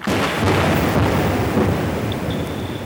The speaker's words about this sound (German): Etwas eingegrenzter, doch viel lauter sind die Schallkanonen für die Öl- und Gassuche.